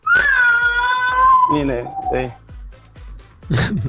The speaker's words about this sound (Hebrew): הנה, הנה, אתה לא בדיוק שומר, הוא בוכה.